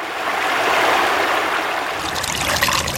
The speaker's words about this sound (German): Der Regen wird zu Schnee, die Gletscher wachsen, dann wird es warm, die Gletscher schmelzen und das Schmelzwasser läuft die Berge durchab, als eigene Gletscherbäche oder als Rinnsal, wo in andere Bäche hineinfliessen.